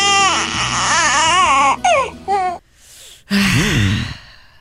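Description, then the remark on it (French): A tired baby cries in loud, wavering wails, breaking into short gasping sobs, then falls briefly quiet before one more rising, strained cry. “Il a l'air pas bien. Faut-tu que je change sa couche? Ce n'est pas une bonne réponse. Je te donne une autre chance. Il est fatigué.”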